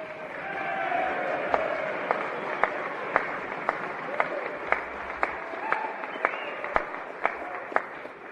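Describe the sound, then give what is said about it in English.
Republicans in a legislative chamber applaud and cheer a remark that Washington's implementation of Obamacare has been abysmal: a dense wash of clapping with sharp individual claps popping out at a regular rhythm, about two per second, and faint voices mixed underneath. “the first applause was the Republicans cheering about how Obamacare has been abysmal as far as implementation”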